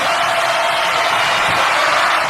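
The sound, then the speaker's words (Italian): An audience applauds to thank the performer Fenomenigno, a loud, dense wash of clapping that holds steady throughout, with no individual claps standing out and no one speaking over it. “Ringraziamo Fenomenigno con un grande applauso.”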